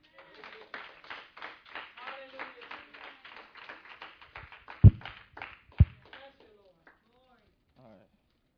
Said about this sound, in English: Can you guys give a hand clap for the musicians? They played very wonderful.